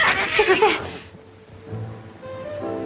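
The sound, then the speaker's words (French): Cats meow in a short burst of high, wavering cries at the start, then fade into a quiet, murky background with a low hum near the end. “C'est les chats.”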